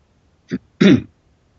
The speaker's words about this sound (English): Okay, I had to clear my throat. I assume you didn't hear that. I put the mute on. You didn't hear me coughing, right?